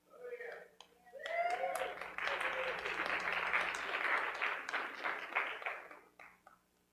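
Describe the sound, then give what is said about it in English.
An audience breaks into steady applause as special music is introduced one morning, swelling quickly and holding for about five seconds before tapering off, with a few voices calling out as it begins. “You may not be applauding after this one.”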